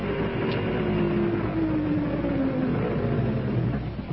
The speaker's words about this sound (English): As the lights and the sound of the engine got nearer, she was at first uneasy, then plainly scared.